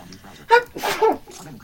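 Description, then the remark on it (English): A single sharp sneeze bursts out suddenly, a quick intake followed by a loud explosive release, with soft background noise before and after. “Bless you.”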